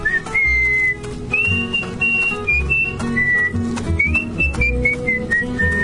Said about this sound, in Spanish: golpeándose los muslos con las palmas de las manos y silbando al mismo tiempo su aire favorito.